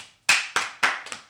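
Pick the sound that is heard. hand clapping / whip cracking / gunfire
hand clapping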